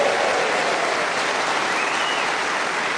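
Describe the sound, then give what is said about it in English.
An audience applauds Colin Sell with a steady, loud wash of clapping that holds at an even level for a few seconds, dense and continuous with no individual claps standing out. “So let's have a big round of applause for God's sake.”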